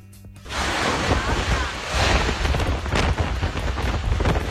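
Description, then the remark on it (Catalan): A fierce gale roars loudly and steadily while sharp cracks and bangs of the roof of an industrial warehouse being ripped off by the strong wind and debris clattering burst through the noise, in the Eurocentro industrial estate on Avinguda de Sant Joan de Vila. “El vent bufava amb molta força i ha fet volar el sostre d'una nau industrial del polígon Eurocentro situat a l'avinguda de Sant Joan de Vila.”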